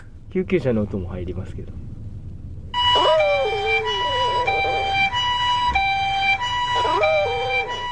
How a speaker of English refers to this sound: Of Gotaro the Chihuahua howling her little brains out at an ambulance. And it's like the most like tender. She's howling so hard. And it's such a soft little, such a soft little tender Chihuahua howl.